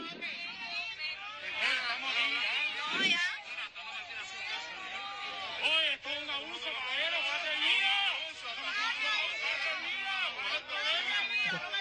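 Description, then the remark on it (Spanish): A dense, loud crowd of many overlapping voices shouts and calls out continuously, a steady roar of raised voices with no single speaker standing out, a protest crowd shouting "Patria y vida" in support as people are being detained. “Sí, la gente gritaban patria y vida y hubo mucho apoyo.”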